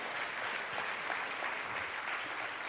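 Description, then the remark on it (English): A church audience claps steadily for a few seconds, giving a hand clap to the Lord, a dense, continuous wash of many hands applauding at once, fairly loud and sustained without a break. “Give the Lord a great hand clap for that.”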